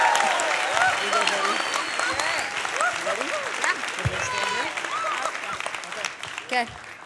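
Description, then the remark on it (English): An audience claps steadily and loudly for several seconds to welcome the first of two guest preachers of the evening, a dense wash of applause with scattered cheers and voices rising above it before it starts to taper off. “So would you give a rousing applause to our first preacher?”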